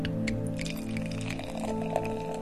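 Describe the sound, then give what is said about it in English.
A Belgian pale ale, a Halloween beer, is poured steadily into a glass just after opening, a continuous fizzing, splashing stream with small crackles throughout, forming a thick head, over a faint low background hum. “Oh man, it's a lovely sound. And let's pour.”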